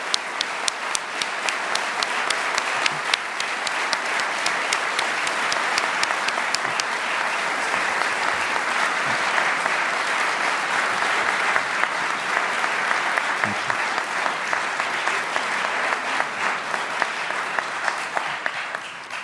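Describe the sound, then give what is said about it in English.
Sustained audience applause for Fareed Zakaria's remarks this evening, a dense wash of many hands clapping steadily for the whole stretch, loud and even with sharp individual claps poking through the roar. “You can hear from the extent of the applause this evening how much resonance your remarks have with this audience.”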